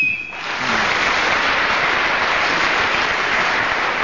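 A short, shrill BBC game show whistle, its sound slowly deteriorating, sounds for a fraction of a second on a single high pitch, then steady, loud applause breaks out and continues to the end.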